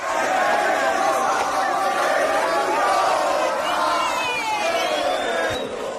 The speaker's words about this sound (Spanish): Entre gritos de Reyes de Europa, los seguidores madridistas muy contentos.